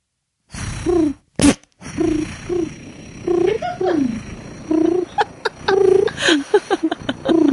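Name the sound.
person imitating pigeon cooing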